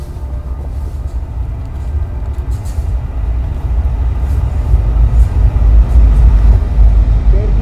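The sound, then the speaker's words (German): A Berlin S-Bahn commuter train rolls along with a steady, heavy low rumble that swells gradually louder and rougher toward the end, with no clear voices. “Erlebnisse in der Berliner S-Bahn. Nicht hinauslehnen.”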